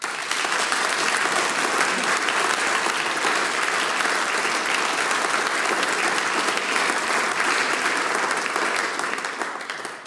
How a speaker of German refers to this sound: Wir sagen zu Beginn Danke mit einem großen Applaus.